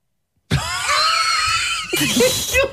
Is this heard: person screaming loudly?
yes